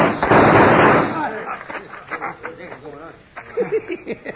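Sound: gunshots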